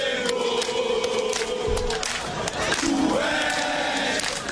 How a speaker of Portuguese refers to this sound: Vamos nessa, a torcida do Mengão, né, fazendo a festa antes do jogo de hoje.